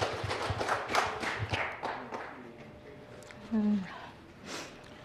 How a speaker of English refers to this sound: Please could you give her a warm round of applause?